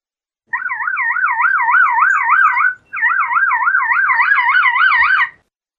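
A lyrebird mimics a car alarm: a loud, rapidly warbling electronic wail in two long bursts separated by a brief pause, with no voices.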